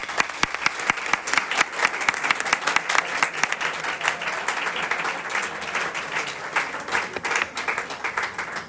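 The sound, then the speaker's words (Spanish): A crowd applauds steadily for several seconds in thanks to event sponsors at a ceremony in Cartagena. Dense overlapping claps form a continuous sustained roar of applause without any voices. “Un aplauso para ellos.”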